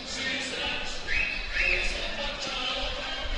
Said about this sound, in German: So, Rating steht bereit zur zweiten Hälfte im Mittelkreis. Schiedsrichter pfeift an, es geht weiter.